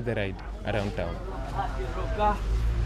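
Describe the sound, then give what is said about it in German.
People talk over a steady low rumble and hum inside a moving electric bus, with the soft, quiet engine noise constant throughout. “Die anderen Busse stoßen im Gegensatz zu den E-Bussen viel CO2 aus. Außerdem ist es hier angenehm leise.”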